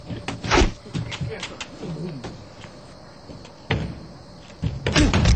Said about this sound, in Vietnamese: À, cái cửa trời ơi.